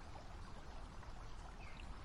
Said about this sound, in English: It's a creek in Hestahava Woods. Please forgive me if I'm saying that wrong, but those are some woods in Denmark.